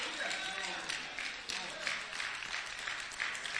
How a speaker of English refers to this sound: Come on, let's clap our hands this morning.